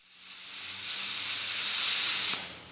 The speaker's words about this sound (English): At the workshop of Protecto Glass in Mexico City, workers cut plates of ballistic steel with a torch.